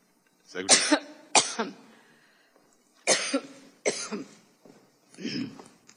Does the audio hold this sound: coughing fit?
yes